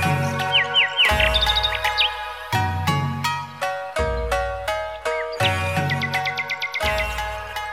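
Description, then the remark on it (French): A nightingale sings in quick, repeated chirping phrases, bright, over sustained lower tones that shift every second or so, with no talking. “Il paraît que dans mon jardin vit un rossignol, que l'on cite comme étant une grande merveille.”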